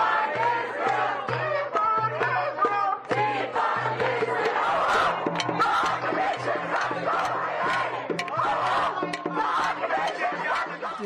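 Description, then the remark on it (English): A loud protest crowd in Washington, D.C. yells and chants slogans such as "Right to rebel" and "Israel can go to hell", many voices overlapping in rhythmic bursts, with a repeated low droning pulse running underneath the shouting for the whole stretch. “There was rhetoric that was being yelled and chanted.”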